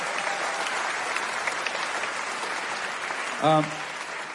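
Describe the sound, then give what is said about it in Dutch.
Steady applause from an audience in a concert hall for Guy van Hulst fills the whole stretch, a dense even patter of many hands clapping, with a brief voiced exclamation rising out of it near the end. “En een applaus voor Guy van Hulst.”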